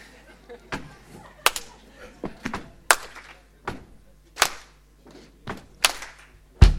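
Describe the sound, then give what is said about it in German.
An audience stomps and claps in a steady repeating pattern: dull low thuds followed by sharp, bright claps. The hits land about every half second, with a faint murmur of voices underneath. “Das ist ganz simpel. Stampfen und klatschen.”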